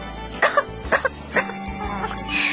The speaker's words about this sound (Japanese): ですが、昨日から咳が止まらなくて。